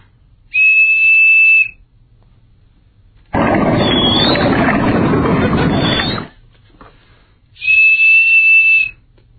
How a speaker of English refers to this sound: What a jip! It's just a regular whistle. It sounds like every other whistle that's ever been made in history.